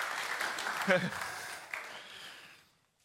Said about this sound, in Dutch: En ik wil jullie een applaus graag vragen voor iedereen die heeft meegeholpen.